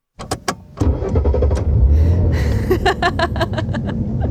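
A stripped-down Studebaker car engine sputters with a few sharp clanks, then catches into a steady low rumble, with rhythmic popping knocks from the motor toward the end. No one speaks.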